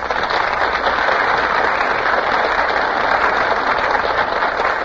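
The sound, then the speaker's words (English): Sustained, dense applause from a large studio audience as Pat O'Brien, Carol Landis and Donald Crisp enter from stage left, filling the whole stretch at a steady loud level, a thick wash of many hands clapping together with no voices breaking through. “Ladies and gentlemen, Pat O'Brien, Carol Landis, and Donald Crisp are just entering from stage left, and the audience bursts into applause.”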